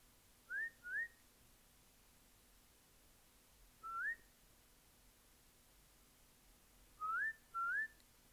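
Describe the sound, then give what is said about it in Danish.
Short rising whistles imitating the song of a chaffinch, a small garden bird: a quick pair, a single note, then another pair, clear and fairly close against a quiet background. “Det var jo lyden fra den lille fugl i haven, som hun kendte så godt.”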